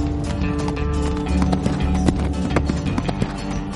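A young man on horseback chases a taxi on a sunny autumn day: galloping horse hooves thud in a quick, uneven rhythm, loud, over steady music playing throughout.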